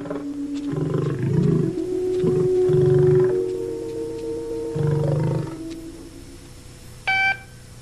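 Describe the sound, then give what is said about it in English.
A tiger roars in several deep, rumbling bursts, loud, with short pauses between them; a brief electronic beep sounds near the end. “The tiger leaves, and Alta sees it off.”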